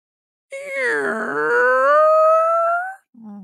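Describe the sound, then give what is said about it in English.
A voice imitates a creaking door as a ghost story sound effect, producing a long, strained, rising groan with a rough, ratchety start that smooths into a wavering whine for about two and a half seconds, followed by a brief low vocal sound. “You call out the ghost story sound effect you want to hear, and I'll give it to you, okay?”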